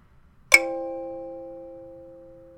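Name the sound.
bell ringing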